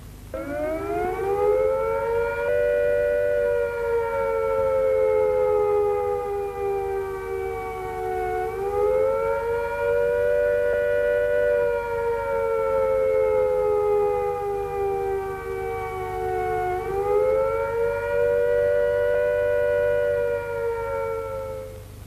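A civil defence attack warning siren wails steadily and loudly, its pitch rising and falling in slow cycles roughly every eight seconds, with no voices present.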